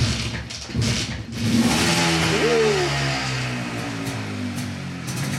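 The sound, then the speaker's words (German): An MZ Trophy motorcycle engine sputters into life, then revs up with a rising whine before settling into a loud, steady rumbling idle. No one speaks. “Jo, das ist eine MZ-Trophy.”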